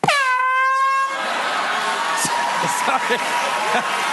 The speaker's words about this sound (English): I was just cleaning the air horn, John, and it went off.